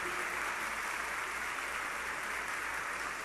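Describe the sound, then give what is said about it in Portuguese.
Steady, dense applause from a large crowd for those honoured with the Medalha do Mérito Educativo, a continuous wash of many hands clapping at even volume throughout, with no voices standing out. “Eu queria pedir uma forte salva de palmas a todos os homenageados com a Medalha do Mérito Educativo aqui presentes.”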